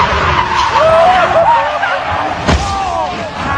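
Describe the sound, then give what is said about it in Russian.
An open sports car roars along at speed, steady loud engine and wind noise with high squealing tire skids sweeping up and down, and a sharp thump partway through. “И, конечно, когда ты в открытом едешь в спорткаре, там звук, ну, слышите сами, да?”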